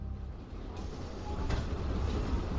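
A commuter train rumbles steadily along the rails, a continuous low mechanical roar with a brief clatter partway through, growing slightly louder as it passes by.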